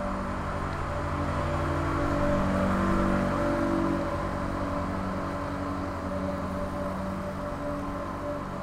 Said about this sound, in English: That amazing machine with boiling water pouring out of it onto a sheet of ice. Frankly, it passed within just mere meters of me